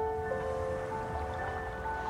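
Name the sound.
flowing river water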